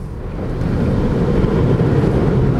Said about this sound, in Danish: Og der stod der simpelthen en kaskade af vand op rundt omkring bilen. Og den bevæger sig altså fremad.